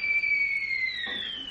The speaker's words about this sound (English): And then the kettle starts singing.